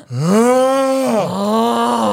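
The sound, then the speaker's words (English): A voice imitates a father's loud snoring with two long, groaning tones, the first rising and held, the second slightly lower after a brief dip, loud with no other talk. “Your dad's snoring.”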